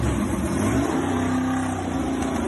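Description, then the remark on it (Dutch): A big 6.2-liter V8 engine of about 430 hp, fitted with a restrictor, rumbles with deep, steady power, its low tone rising and holding through a rev before settling slightly, loud and continuous with no talking. “Geweldig, hij brult echt. De dikke V8, 6,2 liter.”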